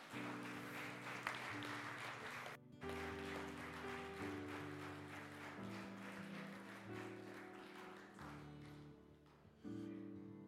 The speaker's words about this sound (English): Give him a round of applause if you would.